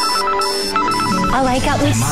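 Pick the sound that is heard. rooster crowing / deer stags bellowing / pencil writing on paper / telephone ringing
telephone ringing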